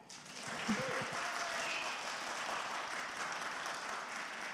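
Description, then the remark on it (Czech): An audience applauds steadily, many hands clapping in a dense, continuous patter that holds at an even level throughout, with no voices standing out, celebrating the birth of a man's second child. “měli byste tleskat spíš Magdě než mě asi”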